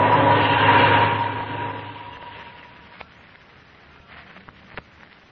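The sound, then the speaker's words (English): A droning airplane engine with a steady, humming tone roars loudly at first, then gradually fades as the plane comes down to land in a lonely spot at 2 o'clock in the morning, leaving a quiet hiss broken by a couple of sharp clicks. “Listen, he's coming lower every second.”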